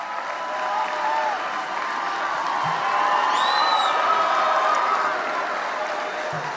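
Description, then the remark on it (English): A large crowd at a National Rifle Association conference applauds and cheers continuously after Donald Trump says "They'll take away your Second Amendment," a dense roar of clapping with scattered whoops and shouts rising above it, holding steady and loud throughout with no one speaking. “They'll take away your Second Amendment. The reaction to that went on and on.”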